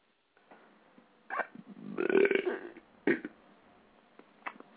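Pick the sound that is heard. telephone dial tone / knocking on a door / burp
burp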